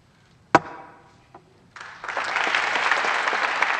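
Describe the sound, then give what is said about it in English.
A single sharp knock rings out, then senators in the US Senate chamber break into applause for Strom Thurmond as he adjourns the Senate at the end of his 48-year career; it quickly swells into steady, dense clapping and holds loud to the end. “Thurmond paused, unsteady, even as he basked in the applause of his fellow senators.”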